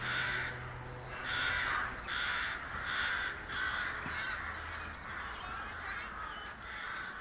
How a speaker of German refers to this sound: Als ich Toni Fankhauser so zuhöre, denke ich wieder über den grossen Krähenschwarm am Himmel nach. Wie man nicht weiss, was das bedeutet, ist das schon ein bisschen unheimlich.